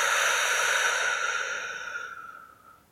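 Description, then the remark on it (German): A long, slow breath out during a guided breathing exercise, a soft airy whoosh that holds steady and then gradually fades away over about three seconds, with no talking. “Wir atmen nochmal gemeinsam ein, die Luft kurz anhalten und wir atmen gemeinsam wieder aus.”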